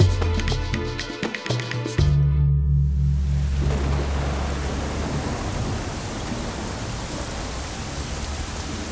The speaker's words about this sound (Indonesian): Malam itu, hujan turun sangat lebat di kampung komunitas adat Banua Lamo. Air hujan seperti dicurahkan dari langit.